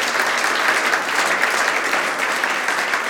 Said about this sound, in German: Groß ist unser Gott, da dürfen wir ruhig klatschen.